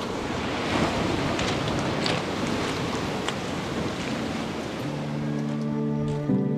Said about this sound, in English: Tai meaning the sea, Porutu, the booming sound it makes when it hits the rocks. You only hear that when there's a big swell coming in from the southeast. You can hear it particularly at night.